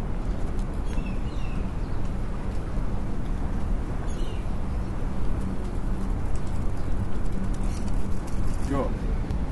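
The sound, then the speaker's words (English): Pigeons or doves coo softly amid a steady outdoor wash of crowd murmur and background noise in Melbourne, with a few brief, faint chirps scattered throughout. “I'm hearing a ringing and a bit of music and people and birds.”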